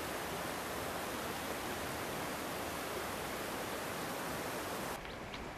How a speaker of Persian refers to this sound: دوروبر روستا پر از آبشارهای کوچیک و بزرگه. معروف‌ترینشون هم آبشار باغ شیخ عمره. من اصلا فکر نمی‌کردم این منطقه این همه آبشار داشته باشه.